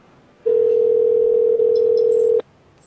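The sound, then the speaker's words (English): A phone's ringing tone sounds once, a steady, loud electronic hum held for about two seconds before cutting off abruptly, with no voices around it. “it's still ringing.”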